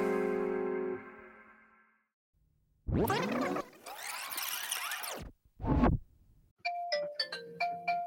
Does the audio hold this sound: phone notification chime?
yes